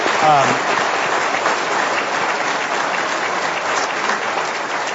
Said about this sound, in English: We get to sit up here, but really it takes a lot of people to do that. So I'd like to give them a round of applause, people who've made today possible.